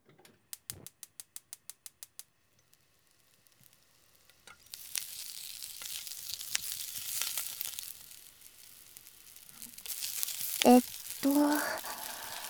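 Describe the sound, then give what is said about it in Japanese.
A quick run of sharp clicks like a stove igniting, then steady sizzling of stew cooking in a pot, with occasional stirring scrapes and bubbling bursts near the end. “ほら、早くシチュー作らないと。”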